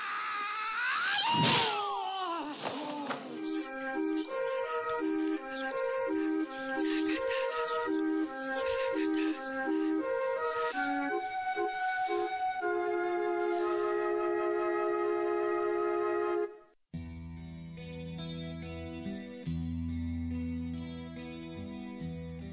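A new heavy metal track plays loud and steady, with distorted, effects-laden tones and a repeating riff, then cuts abruptly into a darker, droning section. No one speaks.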